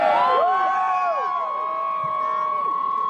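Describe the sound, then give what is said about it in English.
A crowd of Trump supporters lining the streets where the president landed in the Rio Grande Valley cheers loudly and steadily, many voices overlapping with rising and falling whoops and shouts layered over a constant roar for a few seconds. “A self-described Trump train of supporters lined the streets where the president landed in the Rio Grande Valley. This is a crowd of true believers.”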